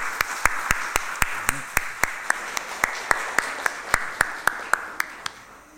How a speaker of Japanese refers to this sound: 皆さん、私たちも大きな拍手を持って神様に賛美を捧げましょう。